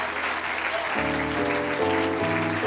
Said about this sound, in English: Now give the Lord a good hand clap of praise.